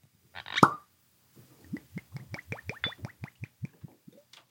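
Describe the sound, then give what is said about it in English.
A sharp cork pop rings out as a bottle is opened, followed by a quick series of soft bubbly clicks and glugs, like liquid being poured. No one speaks. “The cork pops very satisfyingly.”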